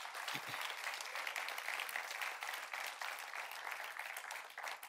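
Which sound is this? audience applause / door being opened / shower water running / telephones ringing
audience applause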